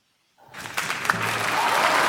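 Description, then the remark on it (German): In a radio play, applause rises from silence into a dense, sustained roar of clapping from a large opera audience greeting the singer Carlotta's entrance in the third act, swelling steadily louder and filling the hall. “Der Auftritt der Carlotta im dritten Akt wurde wieder von donnerndem Applaus begleitet.”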